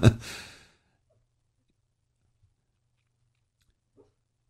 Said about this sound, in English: Little Miss Elkie's sleeping and she's making noises. She's barking at something in her sleep. Hear her?